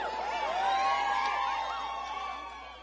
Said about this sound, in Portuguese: Quem gostou, grita ui!